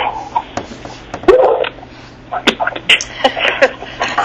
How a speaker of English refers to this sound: Yeah, I made the mistake of teaching my second guide dog how to speak. So that's maybe not the best something one.